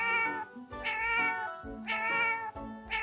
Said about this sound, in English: Cat.